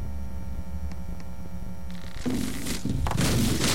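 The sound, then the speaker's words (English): A low steady hum with a couple of faint clicks gives way to a sudden crunching crash as a cardboard replica ship crashes into a replica Plymouth Rock during a school play, followed by a second louder burst of rustling impact noise. “At this point, the cardboard ship crashes into the replica Plymouth Rock.”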